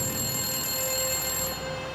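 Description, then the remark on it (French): A telephone rings with a steady, sustained electronic tone that holds for about two seconds, fairly loud, with no voices present. “Le téléphone se mit à sonner à 19h précise quand le père d'Amy arriva.”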